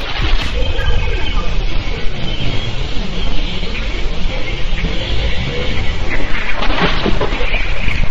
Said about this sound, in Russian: А знаете ли вы, как звучит Луна? Послушаем запись НАСА.